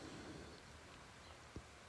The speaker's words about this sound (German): Und es ist echt einfach so wohltuend, auch diese Räume zu haben, diesen Rückzug zu haben. Trotzdem den Regen hören zu können. Und wie der Himmel einfach die Erde wäscht.